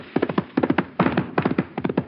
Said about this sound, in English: Wait, listen. My horse is coming.